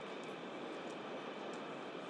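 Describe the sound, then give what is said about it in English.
A train rumbles past with a steady, dense roar of rushing wheels and rail noise that holds at an even, fairly loud level throughout, with no voices. “There's the train thing yet.”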